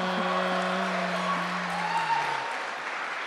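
A steady wash of applause from a group fills the whole stretch, dense and fairly loud, with a low sustained musical tone droning underneath that fades out near the end.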